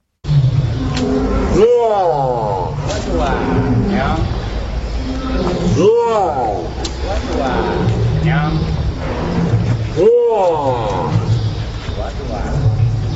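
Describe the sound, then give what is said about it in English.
An elephant, Koshik, mimics Korean words by putting his trunk inside his mouth. He produces three loud, swooping, speech-like utterances about four seconds apart, with other voice-like murmuring from an interaction with a zoo man and steady background noise in between. “Koreans hear an elephant talking”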